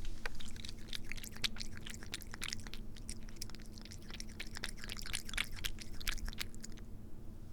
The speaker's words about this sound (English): And now my cat is drinking the water. Let's listen closely.